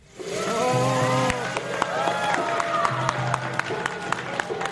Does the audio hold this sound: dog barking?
no